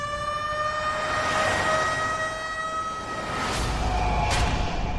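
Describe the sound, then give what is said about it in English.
A loud ambulance siren wails steadily throughout, its tone wavering slightly, with traffic rumble underneath and a couple of sharp bursts near the end. No one speaks. “Frankie calls an ambulance.”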